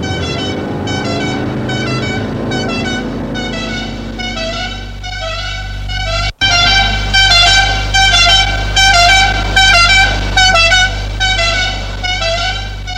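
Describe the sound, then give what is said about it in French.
A police car heading to the quai des Orfèvres drives along with a low engine rumble while horns honk in steady, repeated loud blasts, continuing throughout with a brief break in the middle; no one speaks. “Pendant ce temps, John est entré dans une voiture de police pour aller quai des Orfèvres.”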